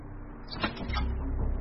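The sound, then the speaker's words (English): A door is tried, found unlocked and pushed open: two sharp mechanical clicks from a handle and latch, followed by a low, steady rumble as it swings, fairly quiet, with no voices. “And the door's unlocked.”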